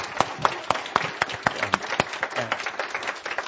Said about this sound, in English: So how about a big round of applause? Awesome.